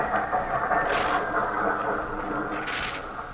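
A train pulls into a station with a steady, loud mechanical rumble and droning tones, broken twice by sharp bursts of hissing steam. No one speaks.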